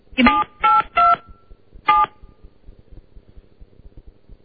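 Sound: telephone keypad dialing tones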